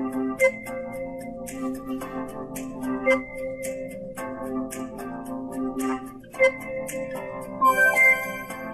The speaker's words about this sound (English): Follow the audio breadcrumbs to conference room 1200.